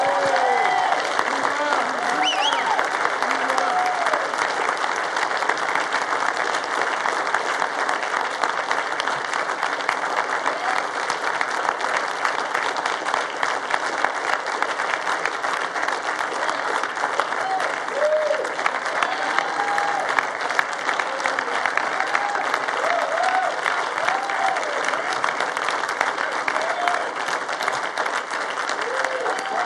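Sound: audience applauding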